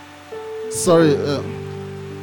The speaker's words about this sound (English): The rain is busy raining on me.